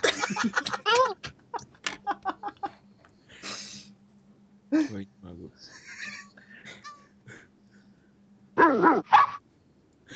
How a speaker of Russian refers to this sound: Собака, пес.